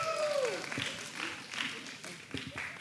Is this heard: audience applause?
yes